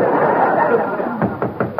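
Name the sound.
knock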